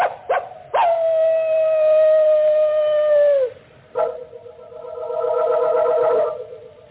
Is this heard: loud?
no